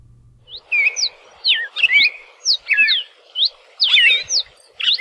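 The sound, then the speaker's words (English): A red-crested or yellow-billed cardinal sings a bright, rapid series of whistled, slurred phrases, repeated in short bursts with brief pauses between them, clear against a quiet background with no talking. “at the Cornell Lab of Ornithology, we can listen to the songs of both the red-crested cardinal and the yellow-billed cardinal.”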